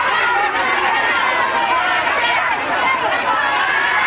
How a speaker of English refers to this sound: A crowd is gathered in the lobby of the courthouse. At the top of the stairs, Lavin and Chantal halt behind his lawyer as the angry crowd presses forward.